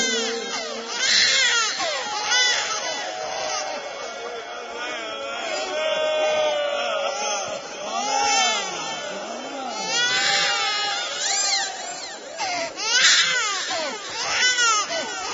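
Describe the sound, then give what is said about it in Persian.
Several infants and small children wail and sob at once, their overlapping cries rising and falling continuously for the whole stretch, loud with no pause. “دور و بر پر بچه های کوچولوه، اونایی که حالا شیش ماه هست”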